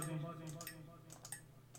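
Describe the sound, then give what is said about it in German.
A cup taps against a pen in a few light, sharp knocks, two quick pairs of hard clicks over a low steady hum. “Ich habe mit der Tasse auf den Stift gehauen.”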